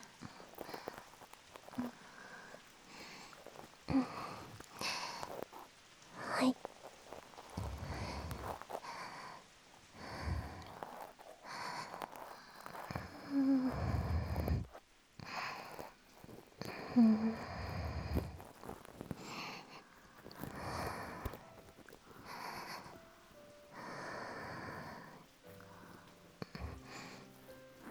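Soft, airy breaths held right at the ear, a series of irregular exhales and inhales with breathy, hissing texture, some sharper and snort-like, with brief pauses between them.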